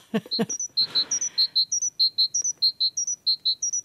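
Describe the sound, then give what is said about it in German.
A great tit sings a variant of its typical 'zizibe' song: clear, high, whistled notes repeated in quick pairs at a steady rhythm, bright, with a few brief rustling clicks at the start. “bei den Kohlmeisen heißt es immer, dass die Zizibe singen”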